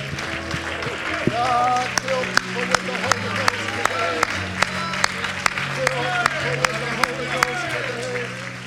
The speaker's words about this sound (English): Oh, and let's all together clap our hands and thank the Lord for answering that prayer.